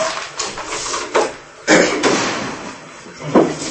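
A door being opened: a couple of light clicks, then a louder rattling clunk as it swings, with another knock near the end over steady background hiss.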